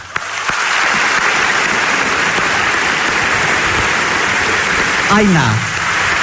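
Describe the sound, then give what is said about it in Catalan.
A crowd bursts into loud, steady applause that fills the whole stretch, dense clapping without a break, with a brief rising-and-falling whistle or cheer near the end. “Jo demanaria un... demanaria un fort aplaudiment”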